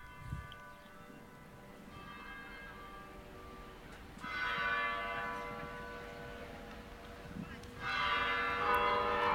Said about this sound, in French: sur cette place où il y avait cette église, dont j'ai enregistré les cloches que vous allez entendre.